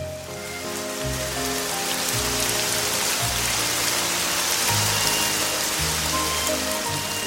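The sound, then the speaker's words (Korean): A heavy rain shower pours down in a steady, dense hiss, loud and continuous throughout, with a low, slow-moving musical tone underneath. “요란하게 쏟아지는 소나기를 멀뚱히 바라보는 아줌마의 그렁그렁한 눈물이 고기를 삼킬 수 없도록 만들었다.”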